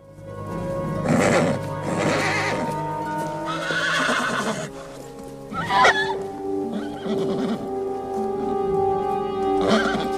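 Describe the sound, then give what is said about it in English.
A horse named Beauty whinnies repeatedly in shrill, wavering cries, tossing its head, mixed with hoof stamps and restless clip-clopping inside a dark stable as a fire spreads and smoke fills it, with no voices present. “I'll be back for the horse in the morning.”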